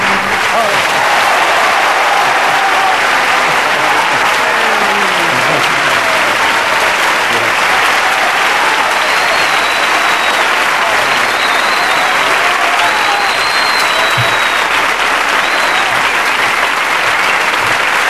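Sustained, loud applause from a large audience fills the whole stretch, dense and steady, with faint whistles and cheers rising through the clapping.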